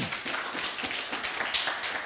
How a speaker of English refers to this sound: Well, then give him a hand clap of praise if you're excited.